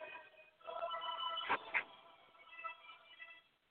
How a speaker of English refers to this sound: We got another phone disturbing us.